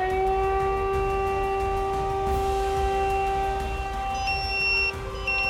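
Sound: fire brigade alarm siren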